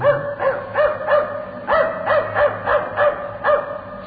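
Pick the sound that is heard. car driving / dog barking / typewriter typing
dog barking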